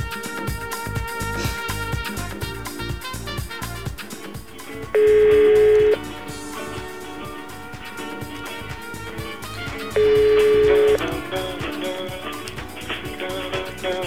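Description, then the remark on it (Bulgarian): A telephone ringback tone sounds twice, each burst about a second long and spaced several seconds apart, over a steady rhythmic music bed with no talking, as a morning radio show phones someone to wake them up. “Изчакваме да се свържем с втората жертва в списъка.”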